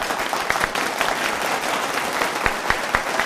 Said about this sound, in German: Also. Applaus.